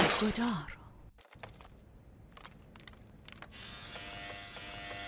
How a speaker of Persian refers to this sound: ریش‌تراش آکواتاچ فیلیپس روش بهتری برای اصلاح.